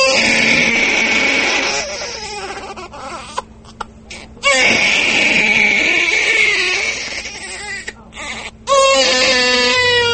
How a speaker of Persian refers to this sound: از داخل صدای کودک نوزاد به گوش می رسد.